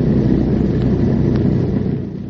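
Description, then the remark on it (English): A seaplane engine roars steadily as it climbs out of a valley, a loud, deep, continuous drone that eases off slightly at the very end, with no voices. “I must say, old chap, the plane responds wonderfully.”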